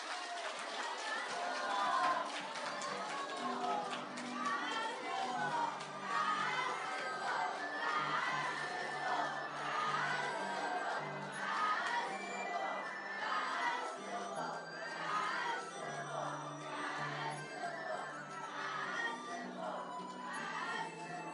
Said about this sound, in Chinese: 让我们再起热烈的掌声，感恩大慈大悲观世音菩萨，感恩大慈大悲的卢军宏台长。